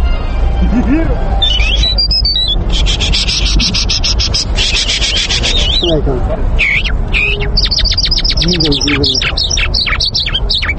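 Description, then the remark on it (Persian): A parrot mimics human speech with short, speech-like utterances, mixed with rapid chirps, whistles and buzzy trills, fairly loud over a steady rough background noise. “بر علاوه توتی، پرندگان دیگر هم هستند که تا اندازه می توانند اصوات انسان را تقلید کنند”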